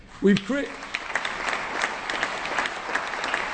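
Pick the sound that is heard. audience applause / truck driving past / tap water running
audience applause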